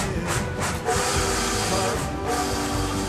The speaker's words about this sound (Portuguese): Barulho de trem. Quem não se lembra do barulho das velhas locomotivas a vapor?